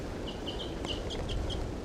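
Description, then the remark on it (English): A wild female bird calls in a quick series of about seven short, high, clipped notes, moderately loud over a steady low rumbling background noise. “This wild female's starting to call 2745. That's her, the wild bird.”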